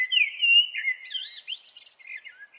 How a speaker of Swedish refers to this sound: Koltrasten visslade och plirade mot Fanny med sina svarta ögon.